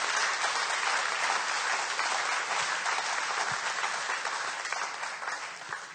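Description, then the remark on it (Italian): Sustained applause from a large church gathering, given to Jesus during a sermon, dense and steady clapping for several seconds before tapering slightly toward the end, with no voices standing out. “Facciamo un applauso a Gesù.”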